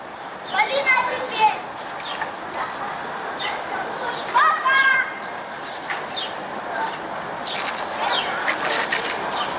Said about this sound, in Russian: Суббота, 11 февраля, выходной день. Продолжается рытье котлована на границе с детским садиком «Солнышко». Дети в котловане играются.